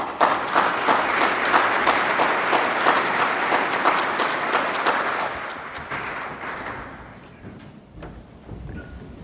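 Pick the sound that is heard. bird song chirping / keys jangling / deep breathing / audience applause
audience applause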